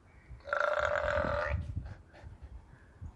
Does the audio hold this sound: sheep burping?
yes